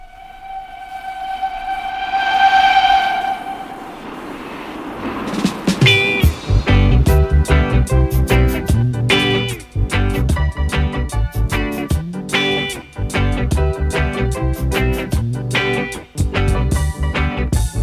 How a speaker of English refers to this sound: And here's a song they wrote, keeping with the train theme, but I think it's a train that we can all get behind, or indeed get on. Take a listen.